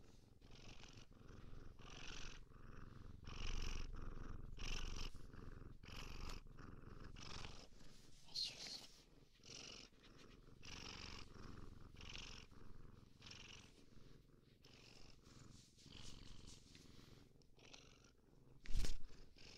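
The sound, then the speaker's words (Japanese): A cat purrs steadily, a low rhythmic rumble pulsing with each breath, continuous and fairly quiet, with a brief louder knock near the end. “猫苦手だったらごめんね。”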